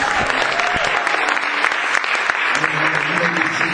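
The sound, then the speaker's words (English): An audience claps together for the Lord after a prayer in steady, dense applause, a broad crackle of many hands filling the room, with some voices murmuring and calling out underneath. “If you receive that, give the Lord a hand clap.”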